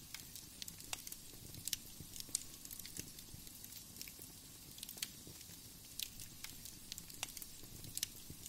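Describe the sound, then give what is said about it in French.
A steady fire in a mountain cave crackles and pops, with irregular sharp snaps scattered over a soft, continuous low rumble and hiss. No one speaks. “La pierre chaude de la montagne, le feu qui crépite, ce lieu sacré qui vous protège.”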